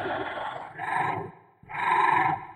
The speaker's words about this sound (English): We wanted to have a very bestial screech that if you stripped away some of that feral quality, you would hear a man or a woman screaming almost as if for help.